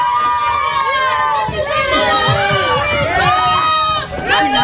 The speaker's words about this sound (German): Klingt es, wenn Kinder eine Ladung Süßigkeiten bekommen.